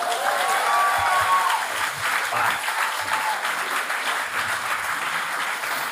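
An audience at a live show at the Bierhübeli in Bern applauds a guest steadily for several seconds, a dense, even wash of many hands clapping at a fairly loud level with no speech over it.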